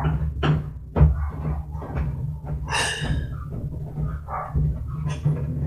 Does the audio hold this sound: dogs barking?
yes